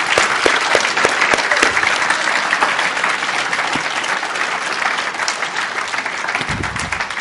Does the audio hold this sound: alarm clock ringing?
no